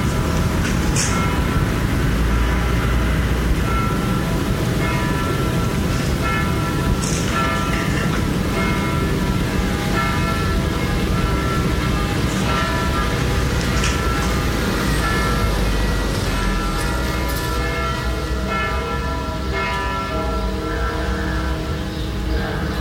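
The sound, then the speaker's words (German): A train heading on to Ida-Oberstein rolls steadily along the rails, a loud, continuous low rumble with ringing metallic overtones. It stays constant throughout, with no voices. “Mit dem Zug weiter nach Ida-Oberstein.”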